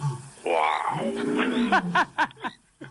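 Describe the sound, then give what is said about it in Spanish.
A person growls out a long, rough imitation of a lion's roar, rising then sliding lower, followed by a few quick bursts of laughter. “A ver, imítame algún animal. Imítame, por ejemplo, el rey de la selva.”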